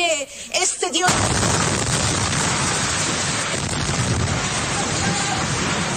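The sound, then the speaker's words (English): A voice on an Iranian news channel broadcast is cut off by a sudden, loud explosion, followed by several seconds of dense roaring noise and crackling debris that drowns out everything else. “Explosions were heard mid-broadcast of an Iranian news channel.”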